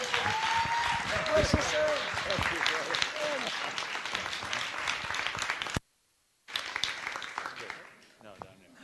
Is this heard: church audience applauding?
yes